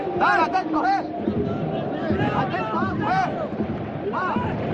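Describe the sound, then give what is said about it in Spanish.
Football players in a Huesca versus Albacete match shout to one another on the pitch, picked up by a pitchside microphone: several loud, overlapping calls with rising and falling pitch, scattered across a few seconds over a steady, noisy background hiss. “Escuchamos, ¿eh? Cómo gritan los jugadores, el micrófono de Víctor.”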